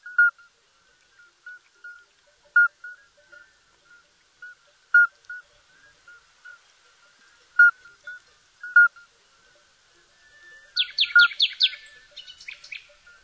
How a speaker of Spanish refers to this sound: Otra especie de sapo, esta vez el sapo partero, nos muestra su sinfonía colectiva.